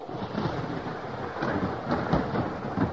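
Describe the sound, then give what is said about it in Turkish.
Rain starts as the weather turns bad and pours down steadily in a dense, continuous hiss, with a low rumble of thunder rolling underneath. No one speaks. “İşte yağmur başladı anne, bak.”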